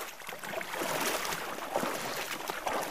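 Water sloshing and splashing steadily in a shallow stream, with a continuous rushing texture and frequent small splashes as if feet move through it, fairly close and with no voices.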